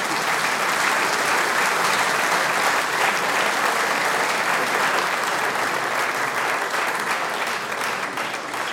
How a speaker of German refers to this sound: Danke und Applaus der ….